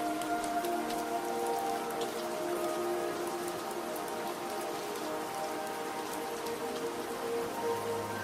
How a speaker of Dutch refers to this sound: En je hoort door een klein raampje dat open staat het geluid van knapperend hout in de open haard.